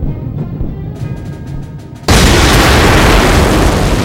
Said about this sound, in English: The explosion that broke through the western wall of Tulum caught Bridget Baptiste off guard.